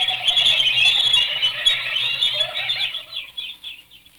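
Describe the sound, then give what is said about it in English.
A flock of birds flaps and squawks loudly, a dense rush of wingbeats and shrill cries that gradually thins and fades over a few seconds. “The birds.”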